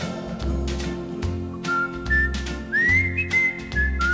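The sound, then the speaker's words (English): A person whistles a bright, sliding melody in clear, sustained notes over a steady musical backing with a thumping bass beat, the whistle sitting prominently in front. “I'm just whistling words, whistling words.”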